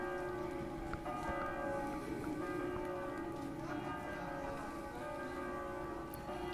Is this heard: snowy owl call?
no